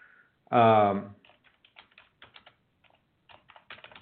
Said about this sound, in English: And so this is what I mean, and I apologize if you can hear me typing away. I just got to get a message over to my producer.